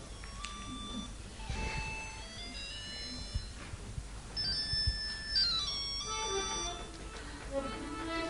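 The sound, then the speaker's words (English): A mobile phone ringtone plays a bright, repeating electronic melody of chirpy tones, moderately loud, over a low background hum with no talking, ringing in the middle of a class. “I'm right in the middle of class. Can you phone me back?”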